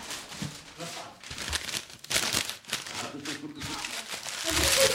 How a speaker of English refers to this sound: And now, 15 minutes of origami.